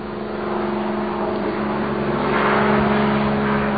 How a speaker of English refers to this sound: You're stuck here all day now. That was the last helicopter to leave to go back to the mainland.